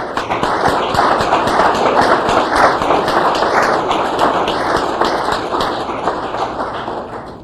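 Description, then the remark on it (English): A church audience at Westside applauds steadily for several seconds, a dense wash of many overlapping hand claps that stays loud and even before tapering off slightly at the end. No one speaks. “And I want to give everyone at Westside a great big round of applause, because it's all your ministry and all of you helped out in one way or another.”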